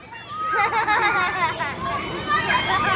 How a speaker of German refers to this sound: Auf dem Spielplatz wird friedlich gebuddelt und Sandkuchen gebacken.